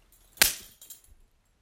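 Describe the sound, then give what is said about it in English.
A single sharp, loud crack of a leather belt striking someone's backside, with a quick fading tail and a few faint rustles afterward, no voices present. “I'm going to whip that ass red.”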